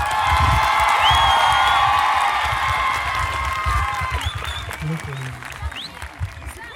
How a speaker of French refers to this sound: Et du coup, je vous demande de faire un tonnerre d'applaudissements à vous tous.